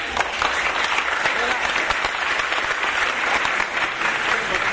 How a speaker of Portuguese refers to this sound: queria até pedir uma salva de palmas a ele.